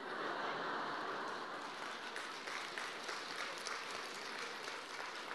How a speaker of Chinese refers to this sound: 鼓掌的人不多，不讲了。